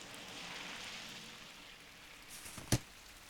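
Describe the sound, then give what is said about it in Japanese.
Rain falls steadily as a soft, even hiss, with one sharper tap of a drop near the end; no one speaks. “雨だしバス来ないし、これも家で遊んでろってことでしょ。”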